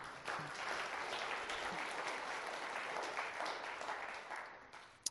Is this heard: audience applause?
yes